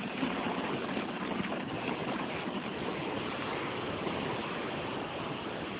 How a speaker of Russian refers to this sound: ты видал, какой дождь идет?